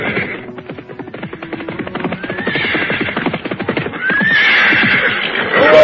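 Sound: horses galloping and neighing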